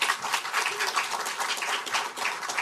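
An audience applauds steadily, many hands clapping in a dense, even wash of sound that holds at a moderate level the whole time, with no voices on top.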